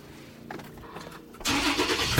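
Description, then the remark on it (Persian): The engine of a black Land Cruiser SUV turns over with a low, steady rumble, then roars to life about halfway through, its loud, full-bodied growl holding until the end. “بلند کروز از راه رو میرن.”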